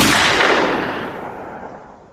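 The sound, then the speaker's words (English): A single loud gunshot sound effect cracks out at once, then rolls away in a long, booming echo that fades over a couple of seconds. No voices are heard. “Pulled the door and all I heard was a gunshot.”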